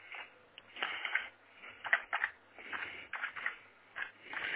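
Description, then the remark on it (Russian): Quiet, irregular clicking of keys on a computer keyboard as someone types what to open in a web browser, a few taps in quick bursts with short pauses between them, with no one talking. “Набираю, чтобы мне, значит, что мне открыть. Вот я напишу. ВКонтакте, например.”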